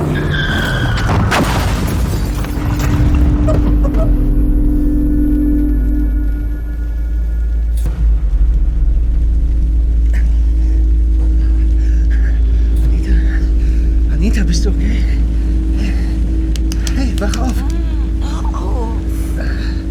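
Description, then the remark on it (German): A car speeds along a road wet and slippery after rain, with a loud, steady engine roar and road rumble, opening with a sharp skidding burst; muffled voices come and go beneath the noise. “Hey, kannst du nicht ein bisschen schneller fahren? Es ist glatt hier, es hat geregnet.”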